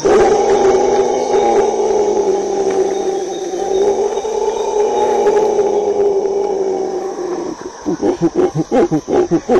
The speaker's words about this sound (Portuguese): Esse barulho na floresta do bando de bugios, ele é escutado a uma distância muito grande. 5 quilômetros, né? Dá pra gente ouvir ele. Então a localização dele é marcar o território.